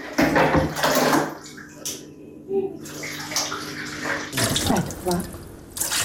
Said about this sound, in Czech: Vode iz vodovoda nema, pa mora da je iz bidona sipa u veš mašinu.